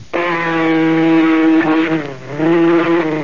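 A loud mosquito buzz drones steadily for about three seconds, its pitch wavering and dipping briefly midway as the insect circles.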